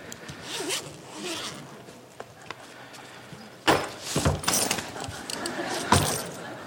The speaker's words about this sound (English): This is the one for overnight trips. Got so many zips, I can never work out which one actually undoes the thing. Here we go.